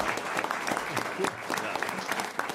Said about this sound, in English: And audience, how about a round of applause for our candidates?